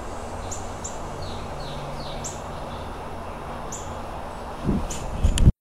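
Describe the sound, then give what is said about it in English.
Small birds chirp repeatedly in short, high-pitched calls against a steady outdoor hiss, before a few low thumps and rustles at the end. “Actually, I did learn from this book how you're supposed to walk when you're around birds to be non-threatening.”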